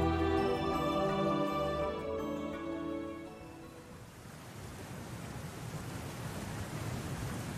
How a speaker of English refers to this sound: Do you hear that? The rushing of water from what feels like everywhere.